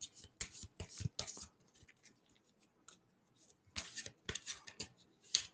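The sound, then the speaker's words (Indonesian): Cards being drawn from a deck as another card is taken: two bursts of quick papery flicks and slides separated by a quiet pause, with no talking. “bentar deh aku ambil kartu lagi biar aku make sure ya.”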